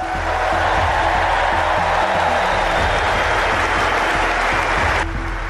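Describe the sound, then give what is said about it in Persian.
Sustained, loud applause from a large crowd giving a standing ovation on the main court at Wimbledon after tennis legend Roger Federer's name is announced, a dense continuous roar of clapping with low rumbling underneath, holding steady for several seconds before dropping slightly near the end. “تماشاگران حاضر در سالن مسابقات بعد از اعلام نام اسطوره تنیس چندین دقیقه ایستاده تشویقش کردند.”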